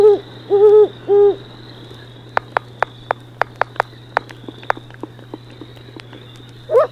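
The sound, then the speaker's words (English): Three deep, resonant great horned owl hoots in quick succession, clear, followed by a run of sharp clicking taps and a final hoot at the end. “I listened for great horned owls.”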